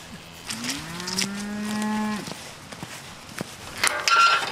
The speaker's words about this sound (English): So we've come into the field. We're going to walk through them. They'll be calm enough, will they? Lots of calves there. Yeah, they're a kind cattle